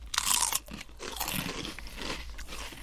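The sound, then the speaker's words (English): Crisp, crackly crunching of Rancheros chips, six months past their expiry, being bitten and chewed, a loud burst at first followed by steady, slightly softer chomping with no talking. “We'll do a chip cheers with the Rancheros.”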